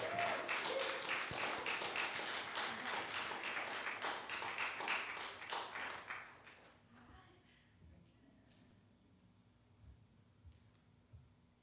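An audience applauds loudly with dense, steady clapping for about six seconds, then the clapping dies away quickly, leaving a quiet, low hum.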